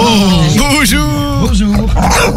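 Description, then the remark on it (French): A dog grumbles and groans in a continuous, wavering vocal stretch lasting a couple of seconds, its pitch rising and falling like a chatty, throaty reply to being greeted. “Bah oui, c'est un chien.”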